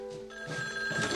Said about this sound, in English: He goes to answer the phone.